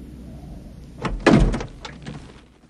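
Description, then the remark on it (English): The driver's door of a 4x4 is unlatched and swung open: a sharp click and a solid thunk, followed by a few softer rattles as it settles, with no voices. “He opens the driver's door and gets out.”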